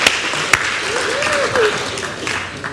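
An audience claps together in steady, dense applause that fills the room, with a few voices calling out and cheering over the clapping.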